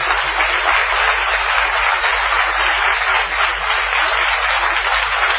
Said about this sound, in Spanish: Vamos a aplaudir a Gillespie.